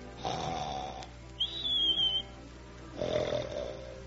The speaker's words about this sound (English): Oh, honey, can't you arrange to snore a little quieter?